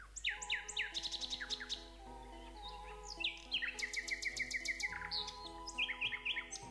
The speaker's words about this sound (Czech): Slavoji su najpoznatiji po svojoj moćnoj i lijepoj pjesmi. Njihova pjesma je opisana kao jedan od najljepših zvukova u prirodi, a inspirisala je bajke, opere, knjige i veliki dio poezije, a često je spominjana u narodnim pričama i poslovicama.